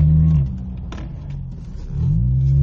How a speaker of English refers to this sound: Why are there so many fucking dump trucks out here?